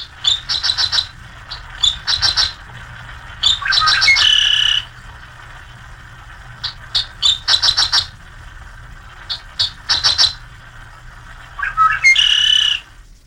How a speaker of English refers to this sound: The Dick Sissle is a continuous singer over and over again, the same tune, without variation, all summer long. The tune of the Dick Sissle is, in a way, as monotonous as that long, hot wind that blows over the prairie land.